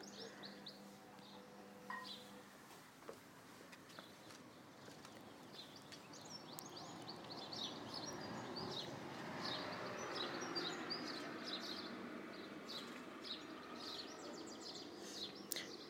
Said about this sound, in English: Some birds and a car just going past, a normal car.